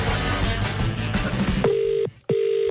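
Telephone keypad tones: two steady electronic beeps, each about half a second, separated by a brief gap. They come after a noisy stretch of background music and are fairly loud. A radio presenter at ZFM is dialing a call to a listener.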